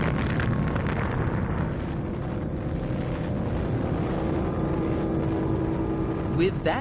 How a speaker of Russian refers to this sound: В центре пустыни Нью-Мексико, наверху стальной башни взорвалась первая атомная бомба. Ее диаметр был всего лишь 1.5 метра, но в ней содержалась энергия, эквивалентная примерно 20 тысячам тонн тринитротиола.